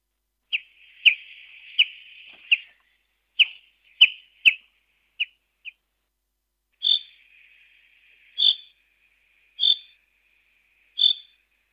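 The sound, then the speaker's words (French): A songbird sings a short, buzzy, trilling phrase with sharp chips, then after a pause gives four clear, evenly spaced calls about a second apart, fairly loud with no talking. “Voici son chant. Il lui arrive aussi de pousser des cris, très régulièrement, des cris comme cela.”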